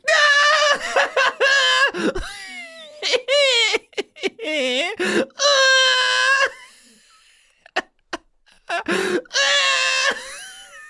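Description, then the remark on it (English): A person screams in loud, high-pitched bursts during a game of trying to make the other person laugh, the shrill cries breaking into giggly, laugh-like squeals with brief pauses between them. “You're screaming.”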